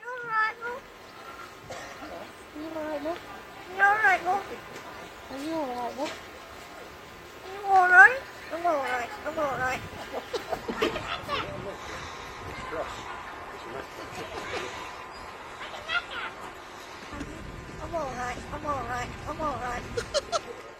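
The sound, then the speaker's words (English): A crow trained to talk mimics human speech in a British-sounding accent, saying "I think I'm all right" and "are you all right, love?", a run of warbling, rising-and-falling syllables at moderate loudness over a low, steady background hiss. “It may be a little hard for some of our listeners to hear, but the bird says, I think I'm all right, but in a British accent.”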